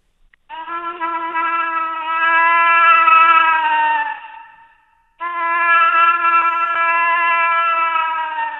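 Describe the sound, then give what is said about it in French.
A man's voice, inside a pickup truck, imitates a moose call with two long, loud, drawn-out nasal bellows, each lasting several seconds, separated by a brief pause, with some echo. No one speaks. “Vous allez coller quoi, là? L'orignal.”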